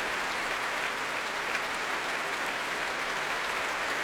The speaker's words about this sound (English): And the players, well, applauding each other as well they might. And … coming back on stage with ….